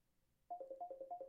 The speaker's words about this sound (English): Sorry about that. That was my WhatsApp. People who call you on WhatsApp got nerves.